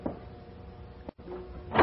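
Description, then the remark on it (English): A sitting room door opens slowly with a faint drawn-out creak over a hissy background, ending in a louder rustling scrape as it swings wider. No voices. “And then the sitting room door opened.”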